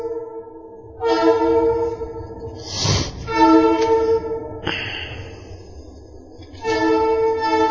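A train horn blares in long, sustained blasts, breaking off briefly and then sounding again, over the steady rumble and clatter of a passing train.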